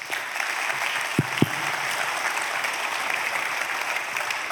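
An audience claps steadily throughout, a dense, even wash of hand clapping. Two slightly sharper claps or thumps stand out early on. There is no talking.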